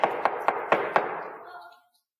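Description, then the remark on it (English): Five quick, evenly spaced knocks on a wooden door, solid, each with a hollow thud, followed by a brief fading resonance before silence. “A knock on the door to the house of your heart.”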